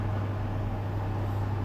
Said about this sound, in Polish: I uruchomi nam się termoobieg i piekarnik będzie się grzał. No i widzimy, piekarnik się nam ładnie grzeje.